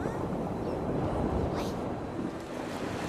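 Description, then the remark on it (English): A steady, broad rush of water surging and flowing back into a riverbed, loud and continuous like surf or a strong current, with a brief airy swish partway through and no voices. “Water fills the riverbed. The water's back!”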